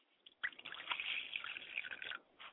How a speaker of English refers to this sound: I pour libations to the west, and I say, Ashe.